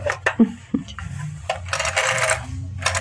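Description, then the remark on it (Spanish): A few sharp plastic clicks and clatters as a telephone receiver is picked up, followed by the whirring, ratcheting sweep of a rotary dial turning and returning, against a low steady hum. “Ha descolgado la bocina y empieza a marcar en el disco.”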